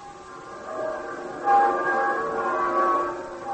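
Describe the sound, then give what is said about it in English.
Church bells ring on a Sunday morning in a steady, overlapping wash of sustained metallic tones, with a fresh, louder peal swelling in midway and humming on without any voices. “Begrudging the church its bells on Sunday.”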